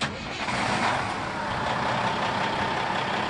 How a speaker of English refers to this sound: If you think it's costing you a lot to fill up these days, imagine pulling into the service station with a tractor trailer.